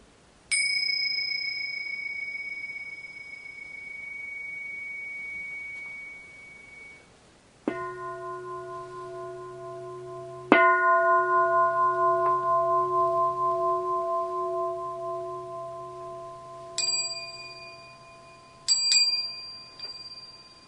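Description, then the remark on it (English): Bells ring out one at a time, about six strikes in all, some high and bright, others deeper, each tone hanging and slowly fading in the quiet. No one speaks. “And listen also to the sounds of these bells.”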